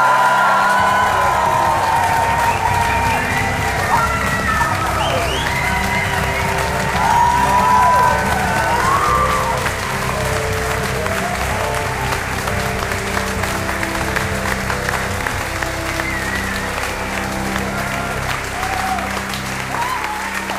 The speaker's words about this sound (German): Einen riesigen Applaus an uns alle.